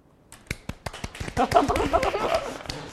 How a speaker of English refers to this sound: Clap louder.